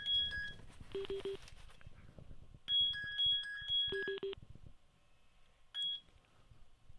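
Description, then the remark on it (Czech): An incoming phone call chimes with bright electronic beeps in several short multi-tone bursts and brief pauses between them, clear over a low background murmur. “máme tady telefon, takže momentíček.”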